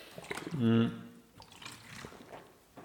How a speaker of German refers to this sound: So, jetzt gibt's wieder für mich kurz einen Schluck Wasser.